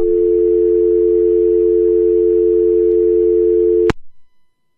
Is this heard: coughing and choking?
no